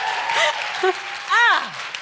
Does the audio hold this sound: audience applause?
yes